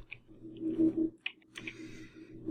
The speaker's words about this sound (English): Whoops, hang on, I'm just having trouble typing here.